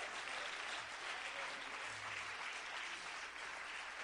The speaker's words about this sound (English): Somebody ought to clap their hands to the Lord.